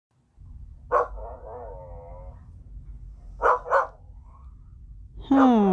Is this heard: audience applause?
no